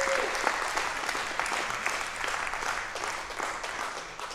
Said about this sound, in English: Can we give a round of applause for anybody that made that decision today?